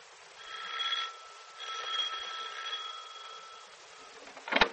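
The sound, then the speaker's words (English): An electric doorbell, rung by someone arriving home, rings in two steady, buzzing bursts, the second one longer, followed by a short clack. The ringing is moderately loud and no one speaks. “for heaven's sake, why are you ringing the doorbell?”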